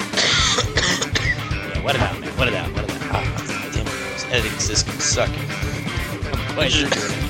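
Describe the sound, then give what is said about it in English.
Loud bursts of coughing and throat clearing repeat throughout, harsh and irregular, with voiced noises and mumbling mixed in between the coughs. “Put all the coughs at the end of the episode.”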